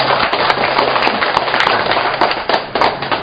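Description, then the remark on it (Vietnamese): A sustained burst of applause from an audience, dense and steady for a few seconds, with many hands clapping at once and no clear voices over it. “Rồi cho một tràng pháo tay cho ta phía bên kia.”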